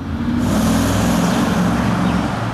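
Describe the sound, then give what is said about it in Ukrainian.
A steady, loud rumble of car engines idling and moving slowly as security brings two cars up to the exit of the Carnegie business centre in Kyiv on 22 June, for former Ukrainian prime minister Arseniy Yatsenyuk, with low throbbing tones and a broad hiss of road noise throughout, no voices. “Охорона підганяє 2 автівки під вихід.”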